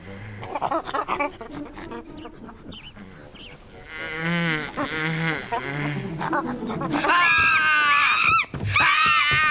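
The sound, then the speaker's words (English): Loud, shrill screeching from a female chimpanzee named Winona rises in repeated bursts, building from hooting calls into piercing, wavering shrieks, with no talking underneath. “She's not a monkey. She's a chimpanzee.”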